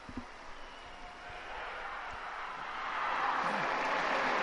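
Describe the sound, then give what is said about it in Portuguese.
A large outdoor crowd of faithful applauds and cheers for Pope Francis after the Sunday Regina Caeli prayer, a dense wash of clapping that swells and grows louder toward the end, with no clear speech. “E assim, ao som de Viva o Papa Francisco, a cena para os fiéis é recebido com aplausos após, então, a oração mariana do Reginacelli deste domingo, 14 de abril.”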